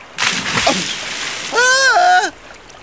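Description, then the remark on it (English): A loud, rushing splash of someone plunging into water, lasting about two seconds, with a short wavering shout rising over the end of the splash before it cuts off. “Enjoy your swim”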